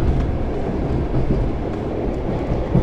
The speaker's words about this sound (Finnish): Niin, tämä juna laittoi vähän vauhtia, että onko se käsitystä, mikä tällaisen junan huippuvauhti voisi olla? Ukko-Pekka, veturillahan pääsee kyllä reilusti yli 100 kilometriä tunnissa, eli veturin potku ei suinkaan lopu tässä tällä Heinolan radalla